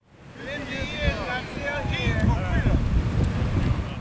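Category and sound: nature, wind blowing outdoors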